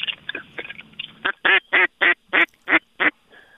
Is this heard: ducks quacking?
yes